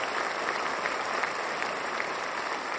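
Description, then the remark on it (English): A large New York Philharmonic concert audience applauds steadily as conductor Jaap van Zweden walks out, a dense wash of many hands clapping at an even, sustained level with no voices standing out. “The conductor of the New York Philharmonic, Jaap van Zweden, he walks out, everyone applauds.”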